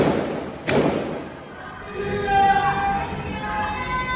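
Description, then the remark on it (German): A single sharp gunshot fired by police at protesters cracks out, followed by the crowd of demonstrators shouting and calling out together, sarcastically crying "Happy New Year". “Frohes neues Jahr, rufen Demonstranten als sarkastische Antwort auf die Schüsse der Polizei.”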